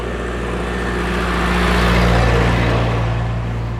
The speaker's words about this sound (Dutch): Even het tractortje voorbij laten gaan. Ja. Wat, tractortje. Geen idee wat het is.